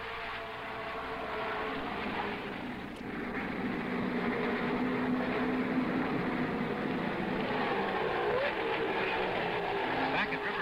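Race car engines roar without a break, a loud, dense, buzzing wall of motor noise, with a few rising and falling pitch sweeps as cars speed past in heavy traffic through turn nine into the main straightaway, with Dan Gurney's number 48 Olsenite Eagle setting the pace.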